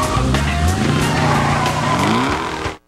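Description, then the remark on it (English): A car engine revs hard and steadily as the car backs up out of an alley, its pitch climbing with a faint tire squeal, for about three seconds before cutting off abruptly. “Porter backs up until he's out of the alley.”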